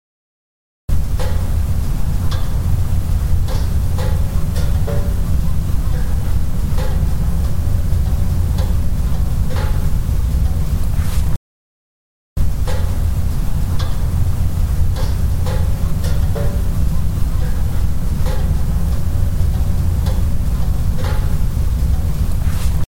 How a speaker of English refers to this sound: There's a lot of noise in that clip. You can hear the Jeep pinging in the background. That's we've been driving around for a while. It's the metal cooling. So that's the pinging sound you hear. It's the metal cooling or whatever that sound is.